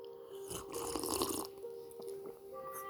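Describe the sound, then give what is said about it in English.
A single wet slurping sip lasting about a second, a breathy, noisy mouth sound over a steady low hum, followed by quieter small clicks and a swallow. “That deserves another sip.”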